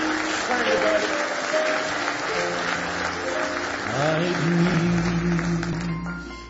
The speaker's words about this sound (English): Give Him one more hand clap of praise if you love Him.